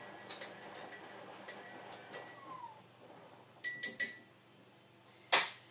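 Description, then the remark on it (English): A spoon clinks against a dish several times at irregular intervals, with a cluster of quick taps near the end and one sharper, louder clink at the finish. “Well, it's a spoon of the dirt you're putting in the dish.”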